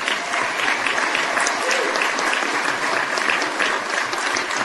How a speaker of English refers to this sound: And I think that deserves a round of applause.